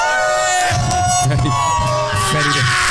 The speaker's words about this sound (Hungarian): Rock koncerten lennénk. Sikítsatok.